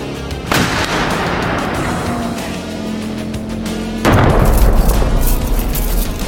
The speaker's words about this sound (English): And one of them seems to have a rocket launcher. They wouldn't blow up their own truck now, would they?